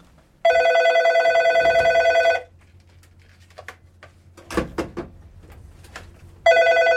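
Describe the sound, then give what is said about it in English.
A telephone in a studio rings loudly and steadily for about two seconds, falls quiet amid some faint rustling and clatter, then begins ringing again at the end. “It's so unusual here at FMU, especially for this show, to have a phone call coming in.”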